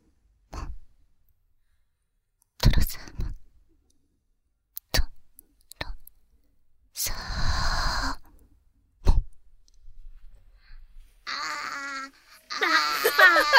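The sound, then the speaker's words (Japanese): Adults take turns making short whimpering, wailing baby-cry sounds, separated by pauses, with a longer breathy wail in the middle and overlapping squealing cries building near the end. “やばい、赤ちゃんが、赤ちゃんが大量発生してしまった。”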